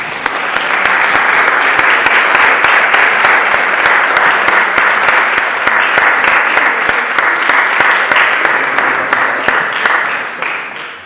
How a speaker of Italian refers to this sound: perché dietro a quei tre pezzi di ogni serata ci sono molti pomeriggi messi lì a studiare, a provare, a capire quale brano potesse andare bene a seconda dei temi, per cui gli facciamo almeno ancora un applauso.